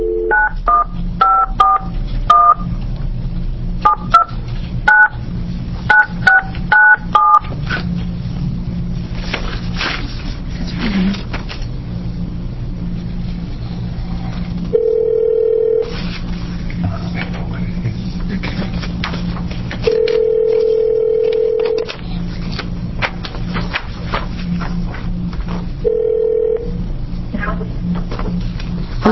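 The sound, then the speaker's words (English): A quick series of electronic keypad dialing beeps as a cell phone is called on speakerphone during an Oregon Senate Rules Committee hearing, followed by steady ringback tones repeating at intervals over a low hum. “So we are going to touch base with her by phone.”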